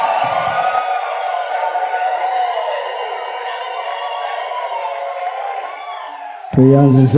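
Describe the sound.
A wedding audience yells together at the bride and groom, who face them and wave, in a loud, sustained roar of many overlapping voices lasting several seconds, then cuts off abruptly as a single voice begins speaking.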